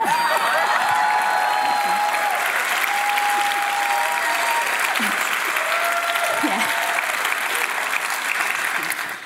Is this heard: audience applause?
yes